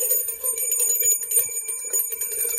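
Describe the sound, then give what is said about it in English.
A single bell rings for the whole stretch in celebration of Oakland's NCAA tournament upset win over Kentucky, a bright metallic tone with a fast, shimmering rattle, fairly loud, with no voices. “Only one bell, but we gotta have a bell because we gotta have some celebration that there was a Cinderella last night in the NCAA tournament, and that was Oakland playing against Kentucky.”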